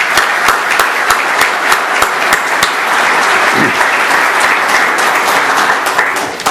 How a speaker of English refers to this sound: Please give these hardworking folks a round of applause.